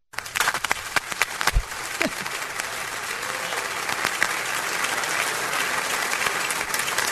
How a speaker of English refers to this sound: Wow. I thought you'd like some applause. I love applause.